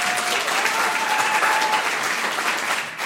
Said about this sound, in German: Großer Applaus für die beiden.